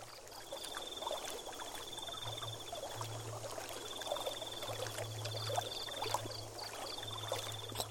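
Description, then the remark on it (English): At night, steady trickling, splashing water runs throughout, while nocturnal creatures call over it: a high, buzzing trill in long repeated bursts and low, pulsing frog croaks. No one speaks. “The sounds of the water and the nocturnal animals are oddly soothing.”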